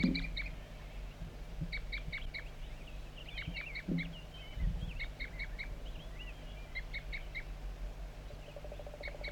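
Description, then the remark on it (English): A wild bird feeding on cones set out for it gives repeated short, high toop calls in quick little clusters of three or four, returning every second or so over a low, steady background hum. No one speaks. “Continues toop by the wild bird, also joined frequently by 4-3.”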